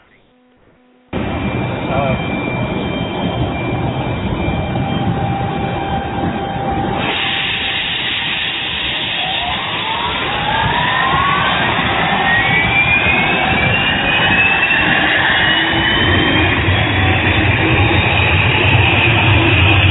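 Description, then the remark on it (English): A loud engine roars to life after a moment of quiet, with a high whining tone that climbs steadily in pitch as it spools up, like a jet turbine starting. “I think it's about time to start the engine for our show tonight.”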